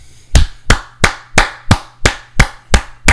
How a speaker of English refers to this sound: In case you don't know what that was, maybe went to Florida State, you can't figure it out, it's me clapping, giving Jeff Goldstein a standing ovation, because he deserves a standing ovation.